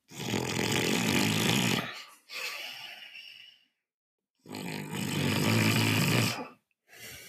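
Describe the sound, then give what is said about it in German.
A person demonstrates snoring with a closed mouth: two loud, rasping nasal snores, each drawn-in rattle followed by a softer breathy exhale, separated by a brief pause. “Genau, also wir können durchaus auch mit geschlossenem Mund schnarchen. Ich mache das mal vor.”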